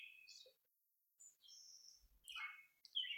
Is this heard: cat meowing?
no